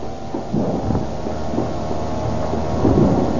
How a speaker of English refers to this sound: What is that? This machinery, these wheels, these belts, they have rhythm, they have tempo.